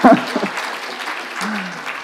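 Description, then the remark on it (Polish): A group of women in an audience clapping steadily for about two seconds during a Polish-language talk on marriage, a dense, even patter of many hands, with a short voice at the start and another brief voiced sound partway through. “Dziewczyny klaszczą.”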